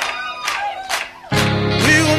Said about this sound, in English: Can I get some soul clap?